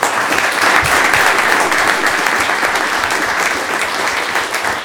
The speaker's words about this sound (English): So we're here tonight to recognize boys lacrosse team for their overall state championship. Congratulations, a little round of applause.